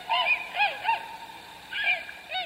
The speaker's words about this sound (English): Tundra swans produce a high-pitched call that has been likened to many things.